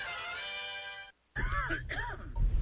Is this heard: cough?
yes